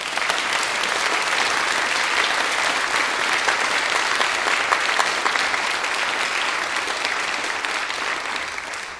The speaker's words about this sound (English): Can we give this wonderful group of students another round of applause?